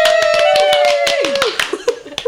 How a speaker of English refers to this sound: That was so lovely. I usually don't get claps in a small room like that.